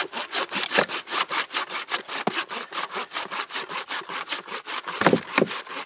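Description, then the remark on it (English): A saw rasps through a deer skull while a deer is being cut up for dog meat, in quick, steady back-and-forth strokes, each one a harsh gritty scrape, continuing without pause and with no voices. “The sounds of ripping deer apart is what nightmares are made of.”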